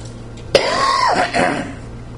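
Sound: coughing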